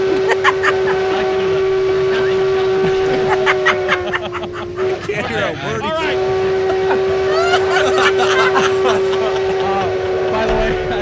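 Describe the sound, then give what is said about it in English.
A steam locomotive whistle blows loud and unbroken for the whole stretch, over rhythmic chuffing and mechanical clatter, with indistinct voices in the background. “Best part is you just hear that horn”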